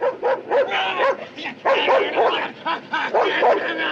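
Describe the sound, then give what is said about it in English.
A dog barks and yips in quick, excited bursts, loud, with a few whimpering notes mixed in across a few seconds of nearly continuous barking, barking at a man who has got out of his car in a traffic jam. “And gets out of the car, and a dog barks at him, and he barks back at the dog.”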